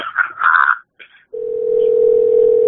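A few brief garbled, warbling noises give way to a loud, steady mid-pitched answering machine beep that begins about halfway through and holds unchanged to the end.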